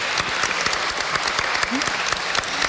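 A crowd claps steadily, a dense patter of many hands sustained throughout at a fairly loud level, with no voices standing out.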